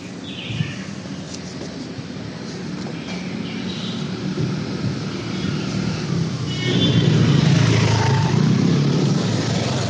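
Steady roar of street traffic in Delhi, India, with cars passing, a dense continuous rumble that swells louder in the last few seconds as vehicles go by. No one speaks.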